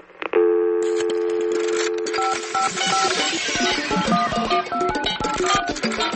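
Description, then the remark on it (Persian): A sustained electronic tone gives way to a rapid series of short, beeping telephone keypad tones as the Radio Farda voicemail phone number is dialed, layered over a busy, buzzing electronic background with no voices. “شماره تلفن پیامگیر رادیو فردا”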